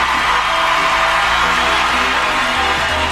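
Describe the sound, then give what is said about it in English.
A loud, steady roar of a studio audience cheering and whooping on the game show Know Your Onion fills the whole stretch, a dense wash of many voices with no single speaker standing out. “I'm always amazed by how the crowd increases every week.”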